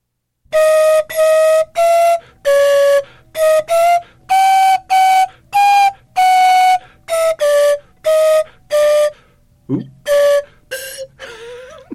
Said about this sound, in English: A small tube with a movable plunger. That's what a slide whistle looks like.